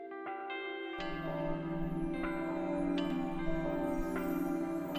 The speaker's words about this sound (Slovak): Počujete, chlapi? Anieli spievajú. Tuším, zvony zvonia? Či organy hrajú?